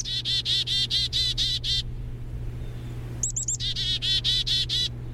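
Songbirds chirp in quick repeated series, a run of about eight bright high notes, a pause, then another burst of rapid chirps, over a low steady background hum.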